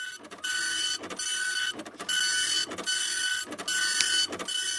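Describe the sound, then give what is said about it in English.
A large office copier-printer runs steadily, its mechanical whir and hiss pulsing in a regular cycle about once a second as pages feed through, fairly loud with no one talking. “The bigger jobs are is the big office copier printer.”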